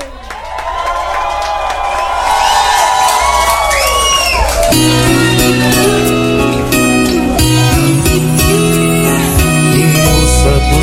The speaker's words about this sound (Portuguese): Queria que vocês recebessem com uma salva de palmas